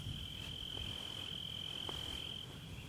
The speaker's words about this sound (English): The crickets and the frogs is our background music.